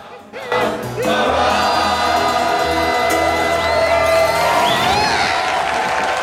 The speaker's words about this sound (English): Two balconies lined with partially clothed men and women in frilly dresses join in the applause.